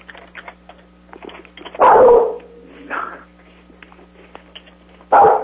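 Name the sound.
large dog barking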